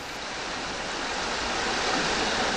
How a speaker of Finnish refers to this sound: Tämä äänitys on noin 30 metrin syvyydestä ja kuultava kohina on kohtalaisen aallokon murtumista. Aallokkoa murtuu joka suunnassa ja ääni kantautuu useiden kilometrien alueelta.